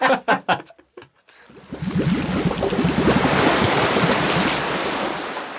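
ocean waves splashing

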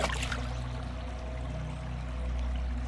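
river water flowing

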